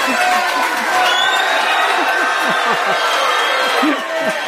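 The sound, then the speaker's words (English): A large crowd cheers and shouts continuously as a religious teacher is introduced, with scattered whoops and overlapping voices rising and falling over a steady, loud roar of applause-like noise. “We got a big crowd.”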